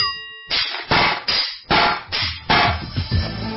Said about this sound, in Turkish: Evet, bu bir çekiç. Çekici, çivi çakmak gibi işlerde kullanıyoruz.